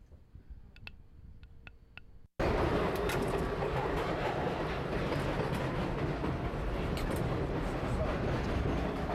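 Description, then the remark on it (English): A few quiet clicks inside a hushed space give way abruptly to the loud, steady roar and clatter of a New York subway train car rolling along the tracks, continuous. “So I followed him into the next subway car and asked him if I could film as he did it again.”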